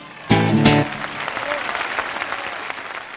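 A crowd claps steadily after a song's final held note, the applause loud and dense at first, then settling into a continuous patter that carries on to the end.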